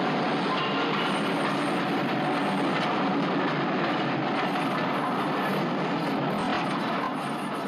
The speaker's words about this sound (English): The train enters the tunnel. The boy struggles to grab his leg and pull his foot off the line. He succeeds in the nick of time and the train rolls by.